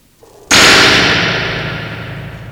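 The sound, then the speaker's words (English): A gong is struck once with a sudden loud crash, its bright metallic shimmer ringing out and slowly decaying over the next two seconds with no voices. “I think we got gonged, man.”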